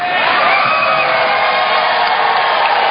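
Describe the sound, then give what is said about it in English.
A large crowd boos Representative Hunter loudly and steadily for about three seconds after he tells Ron Paul not to blame America first, a dense wall of voices with scattered shouts and yells rising over the low, sustained jeering. “He's being booed here.”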